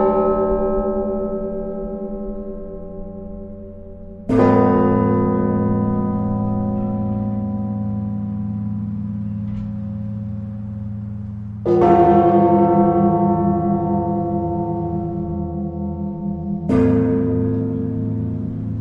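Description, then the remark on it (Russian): Church bells toll in a few heavy, resonant strikes spaced several seconds apart, each note swelling loudly and humming on with a long, shimmering sustain. No voices are heard. “Поэтому наука, собственно, русская компонология, наука о колоколах, наука о звонах, она начала складываться достаточно поздно.”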